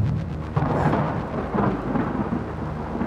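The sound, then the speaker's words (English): A loud thunder clap from a lightning strike during a storm cracks sharply, then rolls into a deep, sustained rumble that fills the whole stretch, with a steady wash of rain hissing underneath. “The lightning's illumination reveals Thomas and Murphy, the family dog.”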